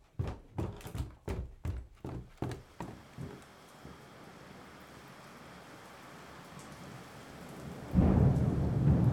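Rain patters steadily in a soft, even hiss, after a quick run of rhythmic thumps at the start, and a deep rumble of thunder swells up near the end.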